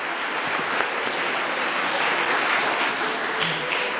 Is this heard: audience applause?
yes